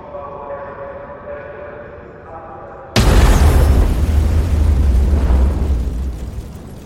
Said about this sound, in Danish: I den store østbanehal på Oslos hovedbanegård gav eksplosionen genlyd. Flere end 100 nordmænd var på vej hjem fra arbejde og passerede hovedbanegården ved 18-tiden den 2. juli 1982. Styrken fra bomben fik de store bagagebokse i metal til at krølle